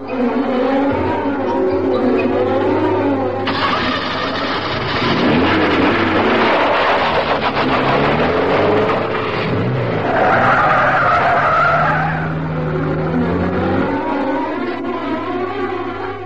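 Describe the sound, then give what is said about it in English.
Police cars race in with engines roaring, among 15 cars and vans converging on the Johnson household, and tires squeal and skid in long, loud screeches that keep overlapping for several seconds, with no voices. “By 4:20 p.m., over 60 men and 5 police dogs are converging in 15 cars and vans on the Johnson household.”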